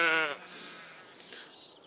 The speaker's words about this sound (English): If anybody wants any sheep samples right now, this might be a good time.